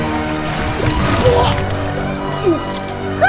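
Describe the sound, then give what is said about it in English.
Thick green sludge pours steadily from a pipe up above into a huge vat in a dense, gloopy gush, with wet gurgles and sloshes bubbling up through the continuous flow, fairly loud. “A green sludge pours out of the pipe.”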